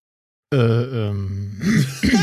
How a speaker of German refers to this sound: Kurz räuspern.